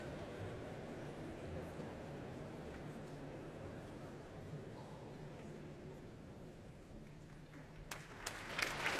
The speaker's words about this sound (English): Applause for Andrew Litton, who conducts the Royal Philharmonic Orchestra in Percy Grainger's Blithe Bells.